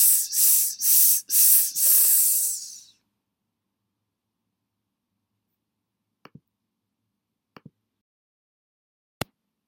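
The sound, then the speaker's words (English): A voice imitates a snake's hiss: a run of four sharp, breathy "sss" bursts, bright and fairly loud, over about three seconds. Silence follows, broken by a few faint clicks. “It's a snake, sss.”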